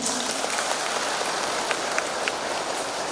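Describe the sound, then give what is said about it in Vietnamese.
A steady, dense wash of clapping from an audience seated on the floor at a Buddhist temple, many hands blending into a continuous crackling roar with a few sharper claps standing out, holding an even level throughout. “Tôi phải cho các vị một tràng pháo tay khen.”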